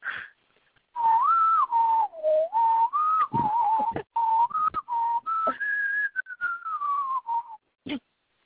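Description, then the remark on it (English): Someone whistles the Jeopardy game show theme tune, a bouncy, clear pure melody of short phrases rising and falling around a mid-high pitch, with brief gaps between notes and no talking. “Well, doing the Jeopardy song in my head.”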